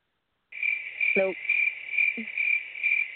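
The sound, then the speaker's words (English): A cricket chirps in a steady, high-pitched trill that starts abruptly and continues throughout, with a couple of brief lower croaking calls breaking in partway through. “Get out of here, cricket.”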